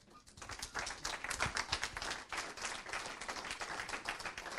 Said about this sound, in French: et puis également, évidemment, nos quatre intervenants que je vais vous demander une nouvelle fois d'applaudir.